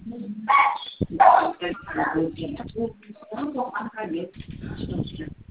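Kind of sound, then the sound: animal, dog barking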